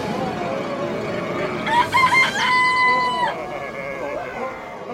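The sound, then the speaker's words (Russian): A rooster crows once: a few short rising notes, then a long sustained cock-a-doodle-doo, clear, standing out over a low, steady background murmur. “Раздался петуший крик.”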